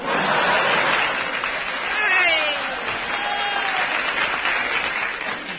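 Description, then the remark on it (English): Sustained audience applause, dense and steady for several seconds, with a few scattered chuckles and voices mixed into the clapping, greeting the entrance of the character Bluebottle. “Pauses for audience applause.”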